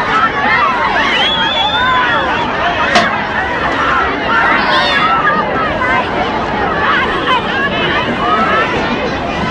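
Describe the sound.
A dense crowd hubbub, many overlapping voices chattering and calling out at once, steady and loud throughout with a brief sharp click near the start, as people press in to shake hands with President Kennedy as he makes his way through the crowd.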